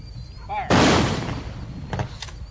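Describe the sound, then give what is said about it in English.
A single loud rifle volley, fired by the American Legion as a military send-off at a hobo funeral for a World War II veteran, cracks out and rings off for about half a second, followed by a couple of fainter, shorter bursts over a low background hum. “Lord Open Road was a World War II veteran, so the Brit American Legion gives him a proper military send-off.”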